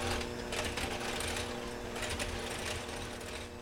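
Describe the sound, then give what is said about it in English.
An electric hand mixer whirs steadily, a continuous buzzing motor hum with a faint rattling texture, running alone for a few seconds without pause while mixing water, spice, and persimmon together. “So then I'm using a hand mixer and I'm mixing the water, spice, and persimmon together.”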